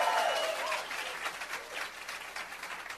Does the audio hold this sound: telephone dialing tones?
no